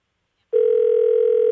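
After a brief silence, a steady electronic telephone ringing tone comes in on the line, one continuous unbroken burst that is clear and fairly loud, with no voices.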